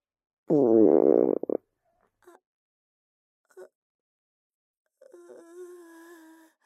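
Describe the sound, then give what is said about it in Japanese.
A stomach growls: a loud, low gurgling rumble bursts out for about a second, followed by two brief faint gurgles and then a longer, softer tonal groan, with no talking. “お腹が鳴っちゃった。”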